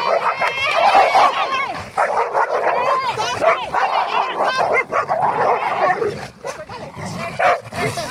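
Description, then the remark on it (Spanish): Four dogs, Thor (a male), Sugar (a black female), India and Keiko, bark and yip excitedly outdoors on a shared walk in the countryside, a busy overlapping chorus of sharp barks and high yelps that keeps going throughout, with a few whimpers mixed in and voices talking underneath. “Y están compartiendo paseo con más perros.”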